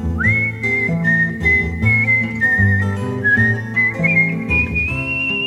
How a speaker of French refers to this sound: Mais qu'as-tu donc, ma fille, à siffler, siffler ainsi? J'aime mieux siffler pour un homme que pour mes brebis.